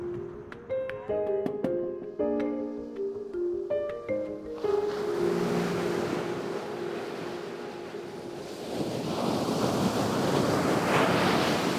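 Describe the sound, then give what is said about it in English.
A few seconds of plucked musical notes give way to steady surf: waves washing onto a beach at Canaveral National Seashore, 24 miles of undeveloped coast, with a rushing hiss that swells louder toward the end, mixed with some wind. “I decided to come here to Canaveral National Seashore because I wanted to see for myself how sea turtles are faring.”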